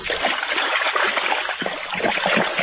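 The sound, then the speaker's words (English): A whole pitcher of water is dumped over a person's head in one loud, continuous, dense splashing pour lasting a few seconds, with no one speaking. “You dumped a whole pitcher of water on your head, and you're drenched in all the soil and everything.”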